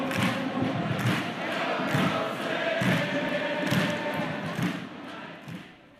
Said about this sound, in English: Since we first spoke this summer, she has checked quite a few sounds off that bucket list. The crowd at a Sounders game.